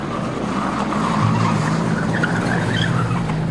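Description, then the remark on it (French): A car engine roars steadily while tires squeal and skid for several seconds, loud, as an SS car carrying Léon Blum and Jeanne Blum hurriedly leaves the Buchenwald camp on the evening of 3 April 1945. No voices are heard. “Ce soir-là, lui et Jeanne Blum sont embarqués par les SS dans une voiture.”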